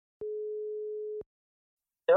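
telephone ringing tone

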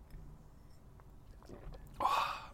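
slurping coffee

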